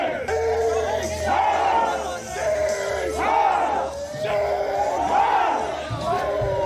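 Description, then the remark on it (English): A large angry crowd yells the rhythmic chant "Pedophiles, get the rope!", many voices shouting in unison in loud, repeated bursts that rise and fall roughly every second and a half over a constant roar. “They're yelling, pedophiles get something.”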